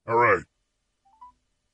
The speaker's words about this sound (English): The number's been dialed. We got it up on speaker.